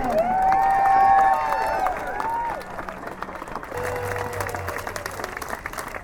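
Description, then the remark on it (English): At a demonstration in Vermont, a crowd breaks into loud applause and cheering for the Worker Center, with a high whoop or whistle rising over the dense clapping before it gradually thins out and fades. “So let's have a big round of applause for the Worker Center.”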